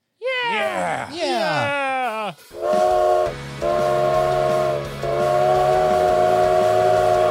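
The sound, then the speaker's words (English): A sliding, wavering hoot opens, then a steam train whistle sounds three long, loud, steady blasts in quick succession, each with a hissing, breathy edge and a low rumble underneath. “It's time to ride the punished train.”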